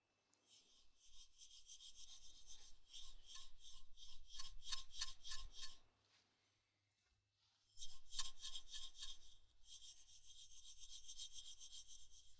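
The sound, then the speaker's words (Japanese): Beach sand from the seashore rustles and hisses inside a small bottle, tipped back and forth in steady rhythmic bursts, falls briefly quiet, then resumes with a sharper swish and a longer, softer trickle. No one speaks. “ではでは、ここに海の砂浜の砂を入れた小瓶があります。”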